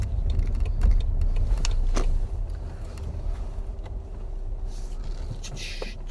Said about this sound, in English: So, as a bit of a soundscape, I'll take you with me into the garage so I can get a ticket.